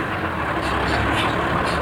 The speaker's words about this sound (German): Kein Mensch war zu sehen, als der blaue Lieferwagen in die von einer Hecke überwucherte Einfahrt fuhr.